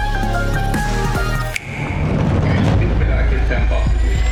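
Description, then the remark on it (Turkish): After a stretch of tonal, music-like sound, a loud explosion boom breaks in and rolls into a heavy, sustained low rumble that fills the rest of the moment, powerful. “Bundan biraz daha şiddetli bir patlama olacağını düşünüyoruz.”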